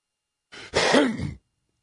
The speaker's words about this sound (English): Oh, sorry about that. I think I meant to hit the cough button, and I coughed right into the microphone.